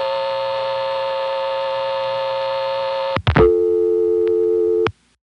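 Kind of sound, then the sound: signal or alarm, telephone line busy signal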